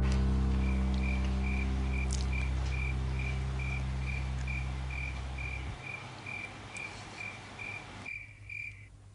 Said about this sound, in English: We're having a conversation, and then all of a sudden, it's just cricket, cricket. Cricket.